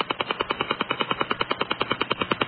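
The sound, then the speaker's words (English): Rapid, evenly spaced pulses of harsh shortwave radio interference rattle steadily like a woodpecker drumming, about ten per second, loud and unbroken with no voices over them, heard while tuning across the shortwave band. “Hear a woodpecker sound?”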